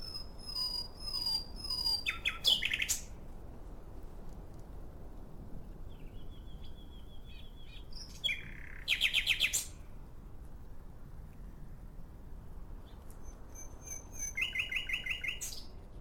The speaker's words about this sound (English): you are spellbound by the song of a nightingale perched on a branch